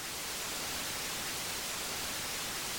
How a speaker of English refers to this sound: And then we bring in this adaptive white noise, which is designed basically to mask out disturbances.